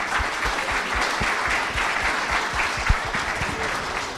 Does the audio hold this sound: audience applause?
yes